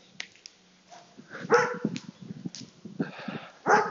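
A dog out on a walk barks and yelps in short, uneven bursts, mixed with whiny, whimpering sounds, moderately loud, with a sharper, louder bark near the end.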